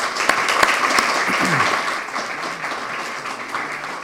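round of applause

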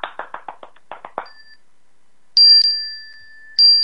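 chime being rung

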